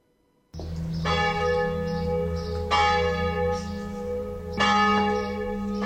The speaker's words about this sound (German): Dem Ruf der Glocke zum Gottesdienst folgen hierzulande immer weniger Menschen.